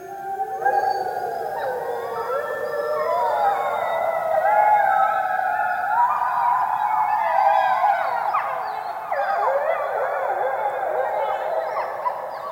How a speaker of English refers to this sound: And one day, wolves might again howl here.